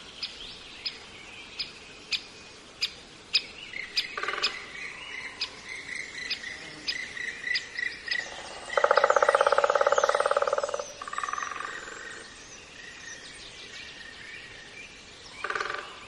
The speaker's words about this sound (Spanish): Y en cambio, escuchad qué distinto el hayedo de Zilbeti en el Pirineo Navarro. Los pájaros carpinteros.